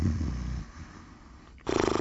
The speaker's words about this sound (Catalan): sentim un efecte de roncament